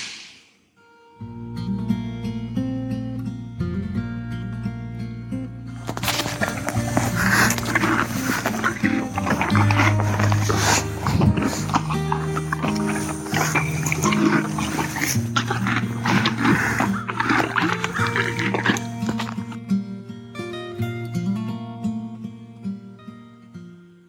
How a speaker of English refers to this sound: And all the horse people should have recognized that sound. That was my pony eating grass this morning. And believe it or not, that's what it sounds like when you put a mic in his mouth. So, which he thought was a little strange, by the way.